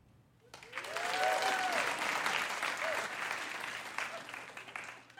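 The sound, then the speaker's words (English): A stand-up comedy audience bursts into sustained applause when asked who believes they are a good person, dense clapping swelling quickly after a brief quiet start and holding steady for several seconds, with faint voices and whoops mixed in. “By a round of applause, how many of you here tonight genuinely believe that you are a good person?”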